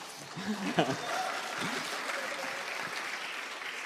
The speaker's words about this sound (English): En ik wilde inderdaad vragen om haar een hartelijk applaus te geven. Dat is al gebeurd. He says to give me an applause.